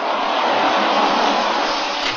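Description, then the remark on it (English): Heavy rain pours down with strong wind in a storm on a dark night in the countryside, a dense, unbroken hiss that holds at a steady loudness throughout, with no voices and no distinct individual drops standing out. “It was a dark night, very windy and raining hard as we pulled up the dirt road to the house.”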